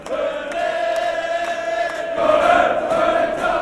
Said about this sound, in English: Black and white bodies turn towards the metro stop and descend towards the tunnels, snaking and shouting, banging on walls.